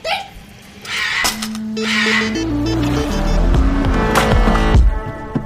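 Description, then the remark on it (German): A car engine revs and shifts pitch steadily as it drives through traffic, with continuous road noise and a few brief higher squeaks, fairly loud, no talking. “Wusste ich doch, dass du es durch den Verkehr schaffst.”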